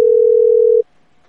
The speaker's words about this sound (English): We got Elva, annoying Mexican ringtone, apparently